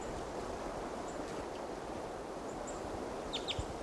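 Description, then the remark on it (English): A male bird right behind a camp, at about 8 o'clock, gives short, high type 2 flight calls: a faint pair midway, then a couple of sharper, louder chirps near the end, over a steady rushing background of wind or water. “About 8 o'clock now, and there's another type 2 male right behind the camp. And he gave type 2 calls on the way in.”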